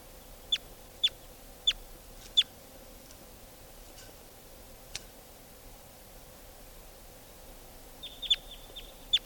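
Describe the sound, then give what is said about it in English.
Wild type 2 birds flying over give short, sharp, high-pitched calls: four evenly spaced notes, a lone fainter one, then a quick cluster at the end, all over a low steady background hum with no talking. “And the wild type 2 birds are flying over.”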